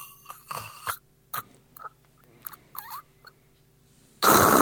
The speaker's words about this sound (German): Und insbesondere, wenn ich Übergewicht habe, dann drückt da zusätzliches Gewicht auf mein Halsgewebe und dann klappt das gegebenenfalls wie so eine weichgekochte Nudel zusammen und dann verschlucke ich mich an meiner Zunge. Das klingt dann so.